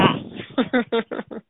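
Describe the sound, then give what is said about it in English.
A female dog barks five times in quick succession, sharp and fairly loud, at an Amazon delivery man, after a brief muffled rumble. The sound is thin and band-limited, as if heard over a phone line. “She's saw the Amazon guy, so she has to show that she's a monster.”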